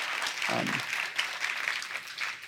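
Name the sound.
audience applauding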